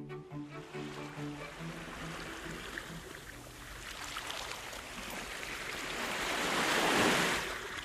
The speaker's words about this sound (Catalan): Com m'agrada. Oh, quina tranquil·litat, no? És un mar en calma, eh?